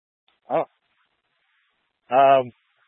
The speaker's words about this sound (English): Oh, I hear the dog now. Sorry, I didn't copy. We heard the dog bark.